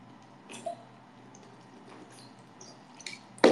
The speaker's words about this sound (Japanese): 今日お水飲みます。